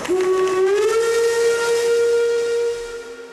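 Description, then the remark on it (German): A loud, sustained train whistle sounds alone as a train arrives at a platform, its pitch rising slightly at the start before holding steady over a hissing background of steam, then tapering off near the end. “Auf Gleis 1 fährt ein das Unternehmen Zukunft, die Deutsche Bahn AG.”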